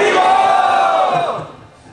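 A crowd at a talk about mantra chanting loudly shouts "Haribol" together in one long, sustained, high-pitched cry of many voices. The cry holds steady for over a second, then trails off and fades near the end.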